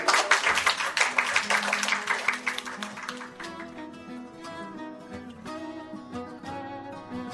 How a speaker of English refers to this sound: I think you did a good job, and I think another round of applause is called for.